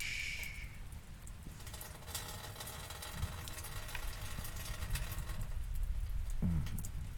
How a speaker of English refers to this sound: Snuggle back into Daddy and relax. It's just a storm. You're safe here.